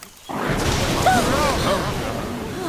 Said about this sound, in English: That sounded close. It certainly did. Fire! It must have been the lightning.